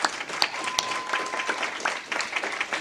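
An audience applauds steadily, a dense wash of overlapping claps with a few sharper claps standing out, holding at an even moderate level throughout.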